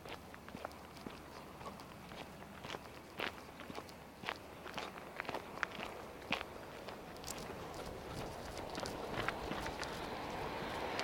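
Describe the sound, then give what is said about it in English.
Steady footsteps on a quick walk back along a gritty outdoor path, regular and crunching underfoot, while a low rumble of traffic or machinery builds gradually in the background. “A quick walk back.”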